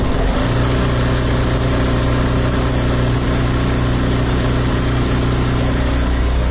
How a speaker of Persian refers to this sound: در این شب و روزی که کمتر از 5 روز بر عید سعید قربان مانده، خیاطان و گلدوزان نیز مصروف کار در عقب ماشین های گلدوزی نشسته و برخی دیگر در اتوکاری و بسته‌بندی کالاهای عیدی دیده می شوند.